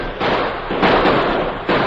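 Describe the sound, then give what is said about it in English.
Gunshots in a shootout: a few loud, sharp reports crack out at irregular intervals over a dense, steady wash of noisy crackle, with no voices. “They're asking for lead. Let's give it to them.”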